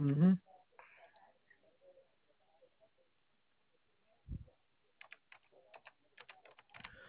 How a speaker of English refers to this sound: let me see if I'm typing in your name. Maybe I can locate you in the system under your name.